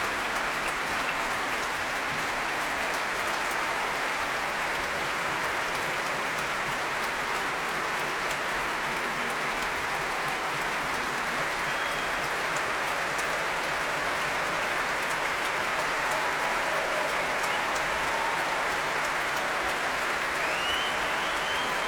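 Sustained, dense applause from a large audience at the Royal Albert Hall after the BBC Symphony Orchestra, conducted by Edward Gardner, performs Shostakovich's Fifth Symphony. The applause is for principal flautist Daniel Palethorpe. A steady roar of many hands clapping at an even loudness throughout, with no voices standing out.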